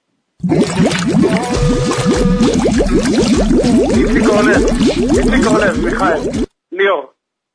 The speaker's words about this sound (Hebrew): אני הולך לשמיע לכם עכשיו את הקטע. קטע של מוזיקה עם מים, והראשון שמזהה מקבל מאיתנו.